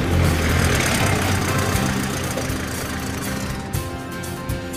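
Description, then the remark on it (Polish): A truck engine rumbles steadily as the vehicle drives around to the other side of a building, a low, throaty mechanical drone with a layer of hiss, holding a fairly even loudness throughout with no voices. “A teraz podjedź proszę jeszcze z drugiej strony budynku. Już się robi! Podjeżdżamy!”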